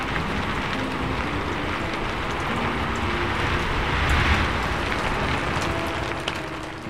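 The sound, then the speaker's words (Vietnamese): Heavy rain pours steadily, a dense, continuous hiss of drops with a low rumbling undertone, swelling slightly louder toward the end before easing. No one speaks. “Nhìn cậu tôi nhận ra ngay, mưa quá thể, giờ lũ trẻ chẳng về thị trấn nữa.”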